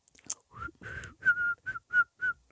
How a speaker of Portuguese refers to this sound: Gostaste? Eu não consigo assobiar.